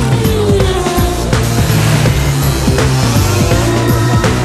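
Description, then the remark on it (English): A loud, busy stream of cars zooms past one after another, engine whines sliding up and down in quick succession with no pause between them. “Heaps of cars are whizzing past.”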